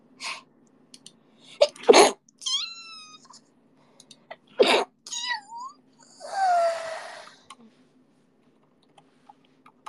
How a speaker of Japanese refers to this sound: 寝起きってめっちゃくしゃみ出るんだよね